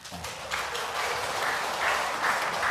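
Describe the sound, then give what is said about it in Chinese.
An audience claps steadily, a dense crackle of many hands that builds slightly and holds, with no voices standing out. “我们拍手哈”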